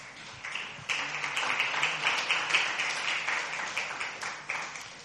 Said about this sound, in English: Give the worship team once again another big hand clap.